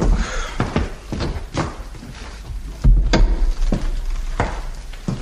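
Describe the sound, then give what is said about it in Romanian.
A door is closed with a series of sharp wooden clunks and knocks, ending in a heavier thud, over a quiet background with no talking. “Stai puțin să închid ușa.”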